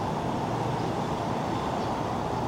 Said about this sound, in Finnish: Liikenne kohisee sunnuntaipäivästä huolimatta vilkkaana tässä ympärillä.